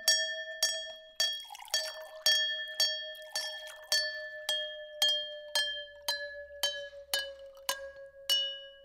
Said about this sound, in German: Die Kinder probieren erst einmal aus, wie unterschiedlich Gläser klingen können.